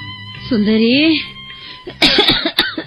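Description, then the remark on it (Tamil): An asthmatic mother coughs, a strained, drawn-out vocal groan followed by a quick burst of several harsh, rasping coughs. “இந்த இருமல் சத்தத்தை கேட்டாலே பத்திக்கிட்டு வருது.”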